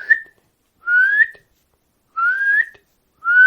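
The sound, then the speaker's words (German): A nightingale's loud whistled contact call, which can also serve as a warning call: a clear rising whistle repeated about four times at steady intervals, bright, with silence between each note. “Und wenn bald der Gesang komplett verebbt, ist das Einzige, was bleibt von der Nachtigall, ihr lauter Kontaktruf, der auch zu einem Warnruf werden kann, ihr lautes.”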